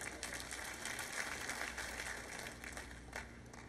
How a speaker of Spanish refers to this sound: Ay, tienen que estar cansaditos aplaudiendo calladitamente hoy.